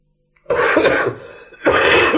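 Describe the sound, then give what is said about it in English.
Two loud, harsh coughs, the first starting abruptly and trailing off into a rough breath before a second strong cough follows about a second later. “You got a cough again?”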